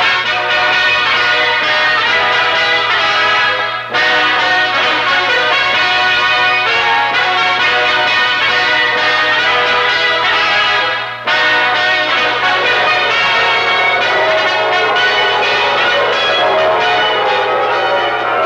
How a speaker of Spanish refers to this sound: Así nació, entre los tañidos jubilosos de una broncínea campana